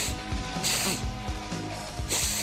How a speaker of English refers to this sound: Yeah, that's okay. It sounds like you're sniffing.